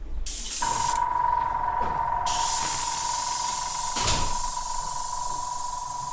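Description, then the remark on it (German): A spray gun spraying nanocellulose onto a sheet of paper from a music collection hisses steadily with a loud, broad rush of air, joined by a constant whining tone and occasional rattling bursts. No one speaks. “Das Knattern, das man hier gerade gehört hat, kommt von der Sprühpistole, mit der”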